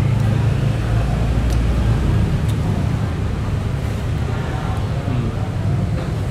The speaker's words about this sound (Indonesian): Mending orang mesen atau suara mobil? Mending suara mobil sih karena bukan.